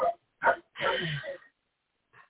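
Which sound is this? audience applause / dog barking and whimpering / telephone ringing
dog barking and whimpering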